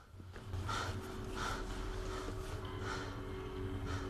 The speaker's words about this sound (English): He lies in the semi-darkness of the crevasse, breathing heavily.